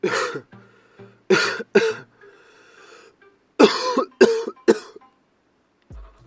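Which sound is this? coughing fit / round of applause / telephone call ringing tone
coughing fit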